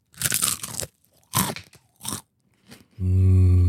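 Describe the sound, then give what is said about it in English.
Loud crunching of crispy fried chicken being bitten and chewed in several bursts, followed by a brief sustained voiced hum at the end. “Wait, speaking of chicken, let me just show you how crunchy it is.”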